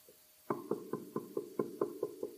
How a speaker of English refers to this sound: Behold, I what? Stand at the door and knock. He's still doing that.